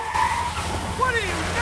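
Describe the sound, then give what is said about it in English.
Car tires skid and squeal with rising, wavering pitches as cars swerve to avoid a crash with a Jeep on a rainy road by a Hoover Dam 2 mile sign, loud over a low rumbling engine drone, lasting under two seconds. “Cars swerve to avoid a crash.”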